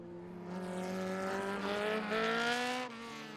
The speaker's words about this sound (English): The cars came scudding in towards Dublin, running evenly like pellets in the groove of the Naas Road. At the crest of the hill at Inchicore, sightseers had gathered in clumps to watch the cars careering homeward.